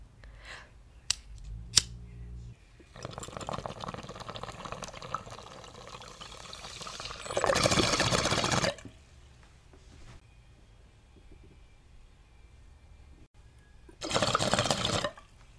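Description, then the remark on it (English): A couple of sharp lighter-like clicks, then a steady gurgling bubble of water in a bong lasting several seconds as someone takes a bong hit, followed by two loud breathy bursts like exhales, with no talking. “That rip killed me because that was actually my second bong rip in a row because I completely took my bong.”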